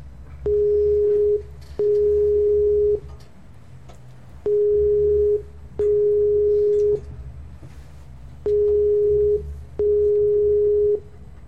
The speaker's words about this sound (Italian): Squillare, squilla.